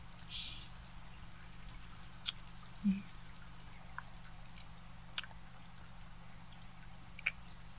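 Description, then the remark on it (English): Sparse, irregular drops of shower water tapping down one at a time, soft little plinks spaced a second or two apart over a steady low hum, with no one speaking. “Here, I'm already washed up, so come stand here under the water.”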